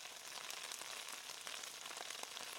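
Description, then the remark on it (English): Steady, close-up sizzling of food frying in hot oil, with a dense hiss and scattered little pops crackling throughout. No one speaks. “Man, I'm getting close to the pop of sizzling so y'all can hear it.”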